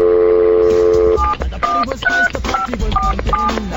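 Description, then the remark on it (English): A steady telephone dial tone hums for about a second, then a quick run of touch-tone beeps follows, roughly six short dual-pitched tones keyed in a brisk, uneven rhythm, clear. “Phone working.”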